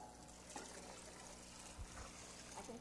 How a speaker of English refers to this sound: So I want you to pour that into the bucket, okay? Okay, that's got the lid on. Pour that in.